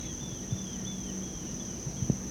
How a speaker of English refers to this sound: That's a grasshopper.